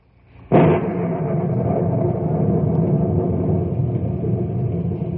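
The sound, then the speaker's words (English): A sudden loud thunderclap bursts out of near silence, then rolls on as a heavy, sustained rumble of thunder that slowly fades for several seconds, with no voices, as gigantic thunderheads with lightning pass over knotty pine country in muggy air where a warm front battles a cold front. “Gigantic thunderheads are passing over the knotty pine country, and the monsters lash out with angry streaks of lightning.”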